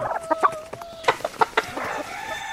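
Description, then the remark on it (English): Several chickens cluck in quick, uneven bursts in a little room at the back of a stable, their short throaty calls overlapping with a sustained tonal cluck running underneath. “There's a little room at the back. We'll just get rid of the chickens.”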